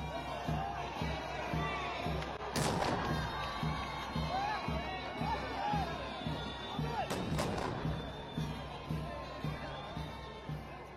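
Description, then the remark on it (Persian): Two heavy, booming blasts ring out a few seconds apart, cannons fired in salute as the ceremonial banner is raised at a ceremony in Mazar-i-Sharif, over the steady roar of a large outdoor crowd cheering and calling out. “با بلند شدن علم موزیک احترام نواخته میشه و توپهایی بر اسم احترام شلیک میگردد.”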